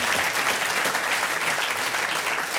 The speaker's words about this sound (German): Es war ein anständiger Applaus. So ist es.